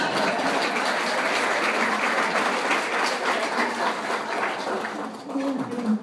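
An audience claps steadily and loudly for several seconds, a dense crackle of many hands, with a few voices murmuring and calling out near the end.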